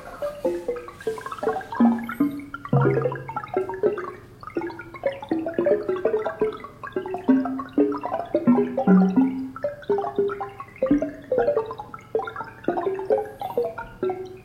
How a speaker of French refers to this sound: Et chaque séisme est représenté par un son. Donc le séisme, c'est en fonction de la magnitude. Le plus grave, c'est le plus grand, et le plus aigu, c'est le plus petit. Et voici le son, en fait, c'est la pluie des séismes.